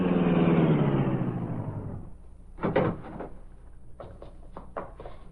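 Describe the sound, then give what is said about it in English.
A powerful car engine hums loudly as it drives through deserted side streets at night, then winds down as the car slows to a stop in a dark alley near a garage, followed by several sharp clunks and clicks like car doors opening and shutting. “Driving his powerful car through deserted side streets under cover of night, Britt Reed arrived at a dark alley near the garage.”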